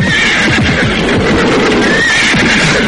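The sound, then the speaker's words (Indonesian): A horse pulling a horse-drawn cart (delman) whinnies loudly, its shrill, wavering neigh filling nearly three seconds, with faint hoof clops underneath and no voices. “Kuda-kuda itu tidak mau jalan.”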